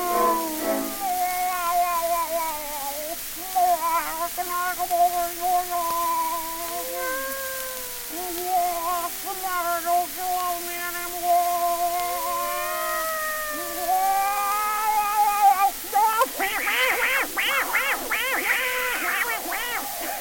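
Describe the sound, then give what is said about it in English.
A human voice imitates a cat, drawing out a long series of wavering, sliding meows and yowls for about fifteen seconds, then breaking into a harsher, raspy caterwaul at the end. “How do you like my cat imitation?”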